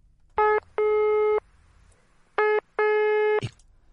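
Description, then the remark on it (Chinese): A telephone busy tone sounds clearly and alone, a harmonic electronic beep repeating in short-then-long pulses twice, ending with a faint click, as calls placed for the Pope from 7 p.m. fail to reach Archbishop Colombo of Milan at the archbishop's residence. “他从晚上七点就让人给他拨打电话，但书记不在主教府，无法与他联系上。”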